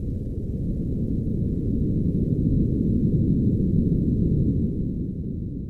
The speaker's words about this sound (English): That's a magnitude 5 earthquake, subtle but dramatic, also recorded in the Mariana Trench.